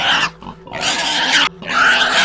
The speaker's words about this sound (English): Holy shit. I say, barely managing to hear myself as the biggest pig that I'd ever seen starts to squeal and grunt loudly.